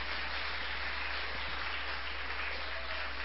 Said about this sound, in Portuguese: Aplauda aí o Senhor que nasceu para nos abençoar.